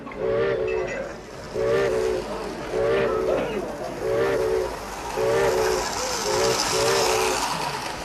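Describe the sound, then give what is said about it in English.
A train pulls in with a steam whistle sounding in short, repeated toots over a steady rumbling, hissing background, fairly loud throughout. “It must have been fun traveling in trains like this years ago.”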